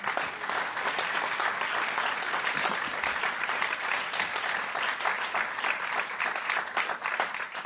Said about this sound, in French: On peut les applaudir, un grand merci.